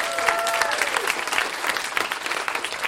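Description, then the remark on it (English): An audience applauds as the next performer is introduced, dense overlapping claps forming a steady, loud wash of sound that holds evenly for a few seconds, with a faint whistle near the start. “We can clap for that.”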